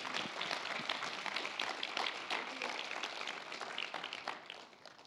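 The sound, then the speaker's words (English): A crowd claps for the Lord steadily, many hands beating together in a dense, bright patter that holds strong for about five seconds before tapering slightly at the end. “Give the Lord a big clap.”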